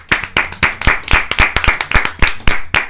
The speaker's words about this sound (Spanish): Sí, un aplauso.